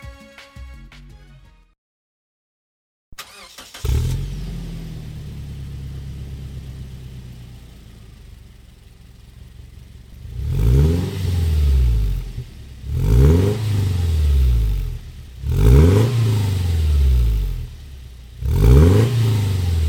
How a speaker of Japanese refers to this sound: ランドクルーザープラド LA-RZJ120W、 マフラーは 4WD バーテックス GD89。